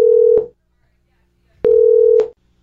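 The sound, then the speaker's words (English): A phone line rings out as an outgoing call is placed: two steady electronic ringback tones separated by about a second of silence, clear, with no voices. “We'll call her, and just listen if you can, because we'll get to the bottom of this hand problem, okay?”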